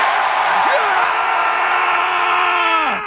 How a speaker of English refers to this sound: Crowd was into it. Good crowd. Yeah. Always a good crowd over there.